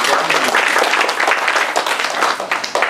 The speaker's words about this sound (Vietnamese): Dạ, xin một tràng pháo tay.